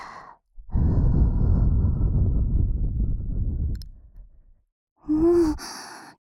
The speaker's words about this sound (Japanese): でも、まずは、あったかい吐息を。